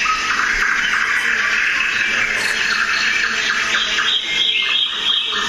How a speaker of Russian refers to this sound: Вот, например, для примера я вам хочу показать, как звучит глухая деревушка на окраине нашего болота. Вот соловьи, там кукушки.